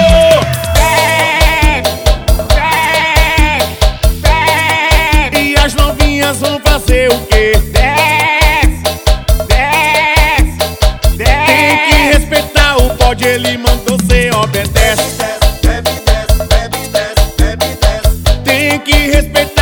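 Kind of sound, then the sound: animal, goat bleating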